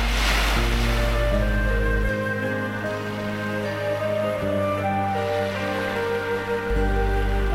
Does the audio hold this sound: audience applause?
no